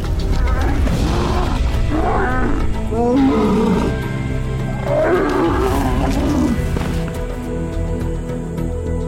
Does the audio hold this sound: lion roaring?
yes